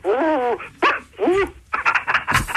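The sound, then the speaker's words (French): A man's voice imitates a dog, giving several loud yelping, whining barks in quick bursts, followed by rougher barking sounds. “Je vais faire le chien”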